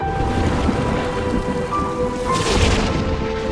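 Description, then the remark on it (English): Heavy rain pours down steadily in a thunderstorm, with a deep rolling rumble of thunder underneath the dense hiss. No one speaks. “I was afraid of storms at your age.”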